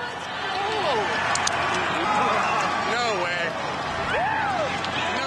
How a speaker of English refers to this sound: Holy cow! Oh my gosh, it flew right into the center of the hole for a hole-in-one for Michael Blount, part of the Corbridge Financial PGA team. The crowd is going absolutely crazy, and what an